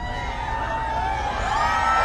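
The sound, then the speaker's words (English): A crowd of a few hundred admirers outside a mall in Michigan cheers and shouts steadily as Palin arrives in her Going Rogue bus, a dense wash of many voices with scattered whoops rising above it, loud and continuous throughout. “When Palin arrived in her Going Rogue bus that's painted to look like her book cover, she addressed a crowd of a few hundred admirers waiting outside of the mall here.”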